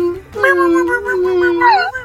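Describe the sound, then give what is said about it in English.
A dog whimpers in one long, wavering whine that lasts about two seconds and lifts in pitch near the end, fairly loud with nothing else around it. “He whimpers.”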